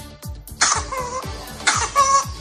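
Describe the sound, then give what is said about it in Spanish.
A baby's whooping cough: a rapid string of short, hacking coughs broken twice by a shrill, rooster-like crowing intake of breath, fairly loud, with no talking. “El síntoma principal de esta enfermedad, la tos, se identifica más fácilmente en bebés, y es que es una tos muy reconocible que pone al bebé rojo y hace un sonido que recuerda al de un gallo.”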